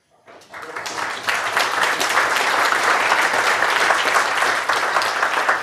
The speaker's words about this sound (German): Ich würde sagen, vor den Fragen kommt der Applaus.